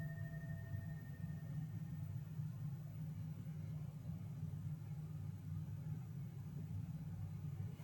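motorcycle driving past

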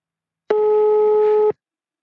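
telephone ringing tone

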